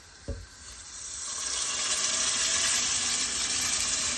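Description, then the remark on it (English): A brief low thump, then a loud hissing sizzle swells up and holds steady as about 600 ml of water from a jar is added to rice frying in oil with cumin on a stove, a broad crackling roar with no voices. “Right, and I have a jar that sort of equals around 600 ml of water that I'm now adding.”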